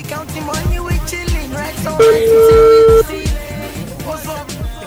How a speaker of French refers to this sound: Mais voilà, je pense que le téléphone sonne. Ça y est, il a décroché.